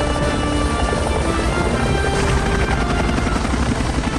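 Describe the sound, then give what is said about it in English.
Three Seahawk military helicopters take off, loud rotors thumping in a rapid steady rhythm over a dense roar of turbine engines, a continuous powerful wash of noise with no voices. “Later, 3 Seahawks take off.”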